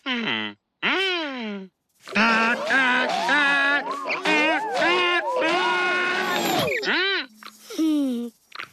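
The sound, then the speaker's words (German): Loud, brassy elephant trumpeting, meant to wake up closed flowers, comes in a series of blasts: two short swooping calls, then a long wavering stretch of rising and falling tones, ending with a few sliding honks. “Dein Tröten hat auch nicht geholfen.”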